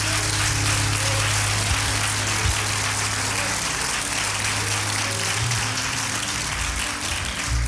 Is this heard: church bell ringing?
no